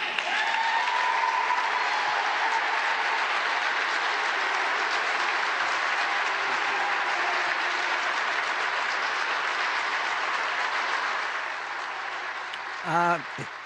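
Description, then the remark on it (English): Sustained applause from a large crowd responding to a speech announcing a national commission to promote patriotic education, the 1776 Commission. A dense, steady wash of clapping holds at full strength for about eleven seconds before thinning, with a brief voice heard at the end. “Gets a good response from the crowd.”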